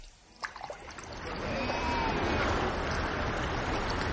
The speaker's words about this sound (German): Nach vielen Tagen endlich ein Fluss.